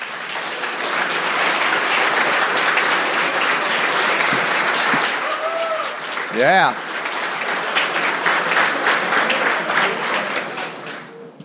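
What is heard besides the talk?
audience applause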